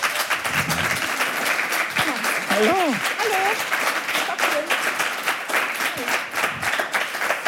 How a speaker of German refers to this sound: Und ich freue mich sehr, dass sie hier ist. Applaus für Valerie Niehaus.